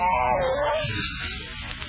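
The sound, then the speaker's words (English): A newborn kitten in a basket mews with a thin, wavering cry that slides downward, then trails into softer, fainter squeaks, with no one speaking. “One? You mean six? Huh? Go look in that basket.”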